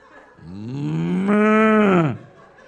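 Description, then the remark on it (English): A single long, loud moo imitated by a human voice, rising in pitch, holding steady for about a second, then sliding down and stopping abruptly, with no other talking. “Sometimes I sit on a plane, I just moo like a cow for hours.”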